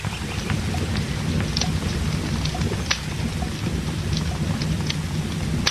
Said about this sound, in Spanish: Pucha, che, sigue lloviendo.